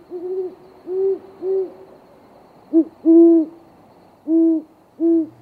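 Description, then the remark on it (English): Deep, resonant hoots of a great horned owl in a rhythmic series, two short groups of soft low notes, clear against a quiet background with no talking. “The Cornell Lab of Ornithology describes these birds as the quintessential owl of storybooks, with long ear-like tufts, an intimidating yellow-eyed stare, and a deep hooting voice.”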